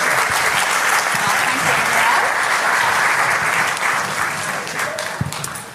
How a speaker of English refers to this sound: Excellent. Thank you, guys. Let's give them all a massive round of applause, and you can take your seats.